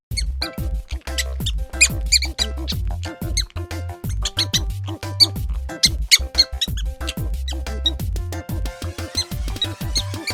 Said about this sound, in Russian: Угадай, чей это звук? Отлично! Это пищит мышка.